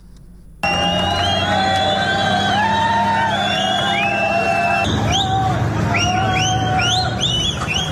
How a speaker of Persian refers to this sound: صدای فریاد و سوت زدن یک گروه بزرگ از مهاجران مراکشی که روز شنبه در شهر خودمختار سئوتا در اسپانیا تحت اسکورت نیروهای پلیس به سمت گذرگاه مرزی با مراکش در حال انتقال بودند.